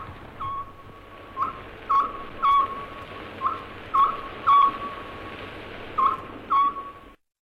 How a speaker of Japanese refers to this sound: 昭和10年の仏法僧の鳴き声の中継放送ですね。愛知県からの生中継ですね。